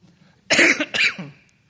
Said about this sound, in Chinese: 对不起啊，因为我的咳嗽还没好。